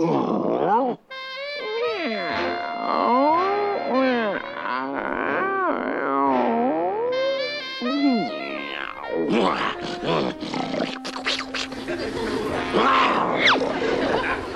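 lion roaring

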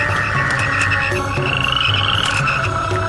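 frogs croaking

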